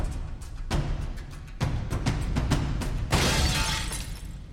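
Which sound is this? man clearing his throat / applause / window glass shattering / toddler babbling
window glass shattering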